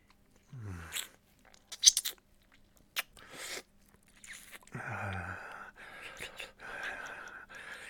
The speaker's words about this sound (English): Don't you dare cover your mouth. Those little gasps of yours are music to my ears.